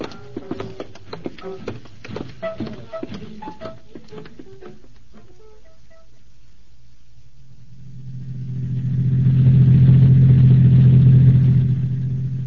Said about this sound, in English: Get the car started.